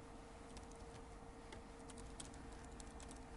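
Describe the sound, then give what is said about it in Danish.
Rapid, irregular clicks of typing on a computer keyboard as someone writes text in a set format (a number, a comma, then text), fairly quiet, with a steady low hum underneath and no talking. “Så det jeg har mulighed for nu, det er at lave en eval, og så skrive tekst, og så skrive det i det format, som vi besluttede, det skal være.”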